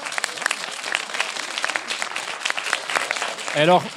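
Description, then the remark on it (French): An audience applauds steadily to answer a question put to them, many hands clapping in a dense, continuous patter, with a brief voice cutting in near the end. “Qui préfère, par applaudissement, qui préfère être seul que baisser son niveau d'exigence ?”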